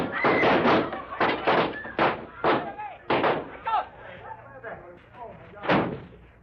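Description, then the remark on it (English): A chaotic burst of loud gunshots, about a dozen fired in quick, irregular succession, with agitated voices shouting between the blasts as the firing gradually thins out. “Them two just at the start of the shooting went out the back door.”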